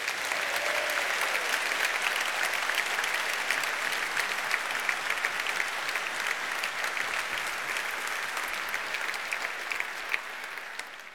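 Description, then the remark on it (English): Sustained applause from a sizable audience fills the whole stretch, a dense crackle of many hands clapping at steady loudness that tapers slightly toward the end, with no voices over it. “a great inspiration to so many people, very clear from the applause.”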